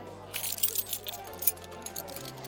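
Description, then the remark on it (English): Metal keys jangle and clink as they are handed over, in a quick, irregular flurry, a bright rattling that comes in small bursts for a couple of seconds over a low steady hum. “Where are your keys? Don't even think about it. Give them to me.”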